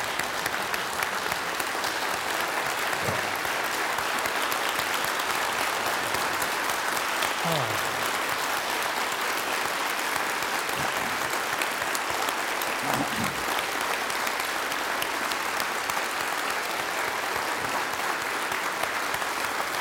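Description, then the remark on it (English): Sustained audience applause before a benediction, a dense, steady wash of many hands clapping at an even loudness for the whole stretch, with a few faint voices briefly surfacing beneath it. “First the applause?”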